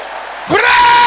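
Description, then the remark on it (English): A sudden loud roar of many men's voices shouting together in prayer, bursting in after near silence and holding strong, a crowd of men yelling in unison. “Brothers, let your voice roar like thunder.”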